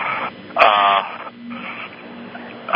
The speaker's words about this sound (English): That was what that beep was about.